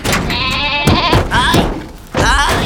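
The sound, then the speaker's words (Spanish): A goat bleats loudly, a few quavering, wavering cries in quick succession over a busy, noisy background, with a short pause before the last bleat. “¡Traedme a la cabra! ¿Dónde está la cabra?”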